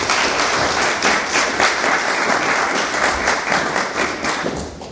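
A crowd applauds steadily for several seconds, a dense, loud wash of many hands clapping at once, holding an even level before easing slightly at the end.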